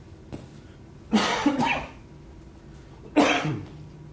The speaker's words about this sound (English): I'm going to cough. Hold on a second.